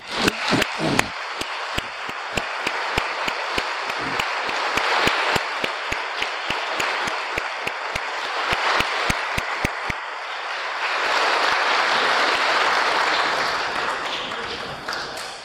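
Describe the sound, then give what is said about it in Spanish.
A crowd applauds loudly for the fathers standing up among them on Father's Day, with sharp individual claps standing out in a steady, almost rhythmic beat before the clapping blends into a denser, rushing wash of applause toward the end. “Vamos a darles un grande aplauso.”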